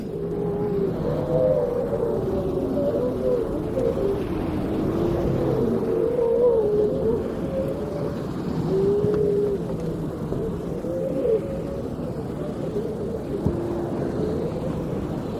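Persistent howling of grey seals from harems on a beach, heard through the night from a boat anchored in the middle of a bay: wavering, mid-pitched cries rise and fall and overlap one another almost without pause, carried over a steady low rumble with no talking.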